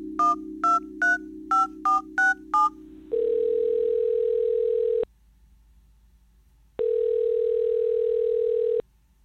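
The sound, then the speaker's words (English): A person picks up a phone to make a call. A steady dial tone plays with seven quick keypad beeps tapped over it, followed by two long, even ringing tones separated by a short pause. No one speaks. “Jittery from exertion, Sam picks up his phone.”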